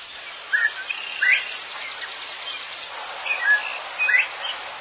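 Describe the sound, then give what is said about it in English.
Northern bobwhite quail calling its whistled 'bob-white,' several short two-part whistles repeating over a soft hiss, with no talking. “All right, it sounded just like a few birds there, but no, in particular, there was one bird in there known as a Bob White. You can sort of hear what sounds like the words Bob White being said by a bird.”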